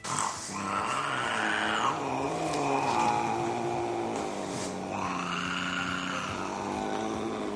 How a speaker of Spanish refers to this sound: Me explico, pusimos un sonido y dije, es un gato imitando una moto. Dijo que un gato no puede imitar a una moto. Eso es cierto. El gato no le imita. Yo digo que suena como la moto, pero el gato no hace nada.